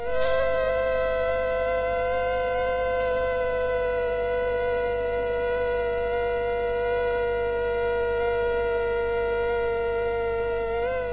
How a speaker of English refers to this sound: But now listen to this sound file, and this is two different forms of mosquitoes being placed close together. And their harmonics aren't matching.